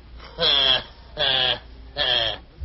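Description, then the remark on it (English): A nanny goat bleats three times in a steady rhythm, each cry short, wavering and nasal, fairly loud, with brief pauses between and no talking. “Well, sir, just then the nanny goat come a-galloping back and ran right over the happy bird.”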